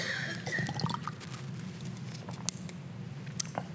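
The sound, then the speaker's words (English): Water pours steadily from a bottle, splashing and pattering, with scattered drips throughout. There is no talking. “So if I'm holding a bottle full of offense, and that water in there is offense, like somebody's hurt me, somebody's done me wrong, like forgiveness gets rid of the water.”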